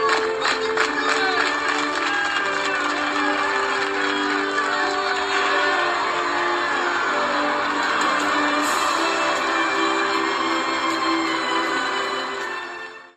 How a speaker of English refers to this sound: So they get up and they do exactly that. They pick up the sled and a slow clap begins. And then a roar of applause.